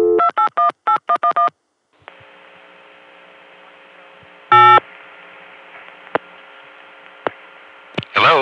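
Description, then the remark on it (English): A single touch-tone key beep for the digit 8 cuts through a steady, buzzing phone-line hum, after a quick opening run of several dialing tones and a few faint clicks. No one speaks. “That was somebody dialing 8.”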